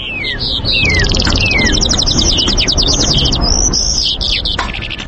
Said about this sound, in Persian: جل پرنده سیارنگ و خوشصدای است که دارای بالهای سفید می باشد. این پرنده انواع مختلف دارد.